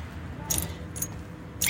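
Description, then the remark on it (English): A green and yellow wild parrot in San Diego gives three short, raspy, sneeze-like calls, hissy and high-pitched, spaced about half a second apart over a low background rumble of morning traffic, with no one talking. “It sounds like either a sneeze or a laugh.”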